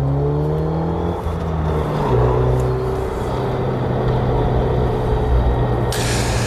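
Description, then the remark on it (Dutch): A Megane Trophy R hot hatch drives hard on a lap. Its loud engine drones steadily with rising and falling pitch as it shifts gears, plus a whooshing rush of road and wind noise. No one speaks. “Ga nog even een rondje.”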